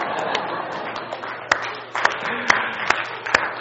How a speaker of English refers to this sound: They're applauding you. They don't even know what they're applauding for. They just love you that much, right?